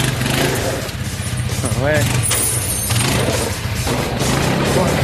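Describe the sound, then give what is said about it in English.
An old vehicle engine cranks and catches, settling into a loud, rough rumble that runs steadily throughout with a brief rising whine midway. “Looks like it'll run. I'm going to give her a go here.”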